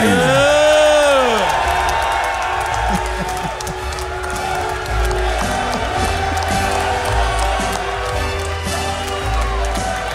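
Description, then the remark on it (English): A crowd of men cheers and applauds steadily for a man introduced on stage, with whoops and whistles rising above a dense wash of clapping and voices that carries on without a break. “He was soaking in the applause.”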